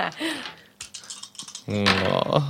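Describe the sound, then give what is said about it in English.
A quick run of sharp, hard clicks and clatters of dice rolling across a table sounds for about a second between stretches of people talking. “Just a lot of dice rolls.”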